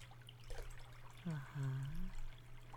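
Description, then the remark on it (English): Warm water softly pours and trickles over a person as a friend pours it over her and helps her wash, a gentle continuous splashing, with a low hum in the background and a brief murmured voice partway through. “Isn't that nice to have your friend pouring warm water over you?”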